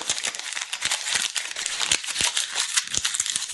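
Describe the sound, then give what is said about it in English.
Paper being crinkled and crumpled up to be put in a pile, a steady run of crisp, irregular crackles and sharp snaps with no talking. “And I just crinkle it up and I put it in a pile.”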